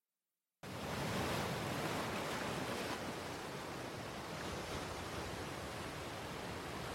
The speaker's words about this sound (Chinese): 清晨的大海泛着朝霞的流光，海浪拍打着沙滩，发出阵阵哗哗的声响。